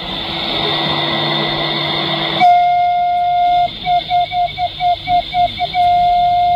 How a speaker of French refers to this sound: Nous attendons le sifflement du train.